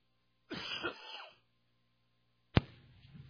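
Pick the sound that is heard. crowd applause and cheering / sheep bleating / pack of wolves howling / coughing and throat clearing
coughing and throat clearing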